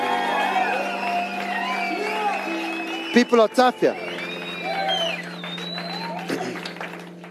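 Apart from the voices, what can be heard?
audience applauding and cheering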